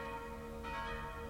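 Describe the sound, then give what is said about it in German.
A church bell, the small baptismal bell tuned to S, 61 cm in diameter and weighing 115 kg, rings with a sustained, shimmering tone, a fresh strike adding brightness midway as the sound hangs on steadily without any talking. “Die kleine Glocke mit dem Ton S, die Taufglocke, misst im Durchmesser 61 cm und wiegt 115 kg.”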